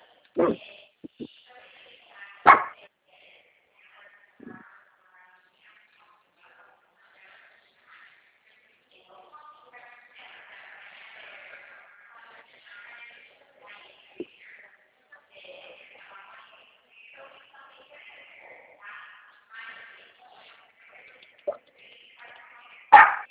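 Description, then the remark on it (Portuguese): A female dog barks in a few sharp, scattered bursts, loudest near the start and at the very end, with quieter voices and household murmur filling the stretch in between. “Leva essa cachorra”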